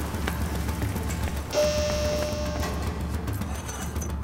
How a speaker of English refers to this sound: Okay, the rain is a pouring. It looks like it's working. It's distracting them.